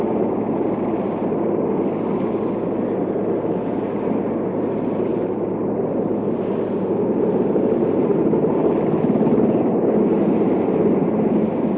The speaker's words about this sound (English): Recovery One, now heading back over the command module. With one of the backup helicopters. Waiting for the photographic helicopter to take off again.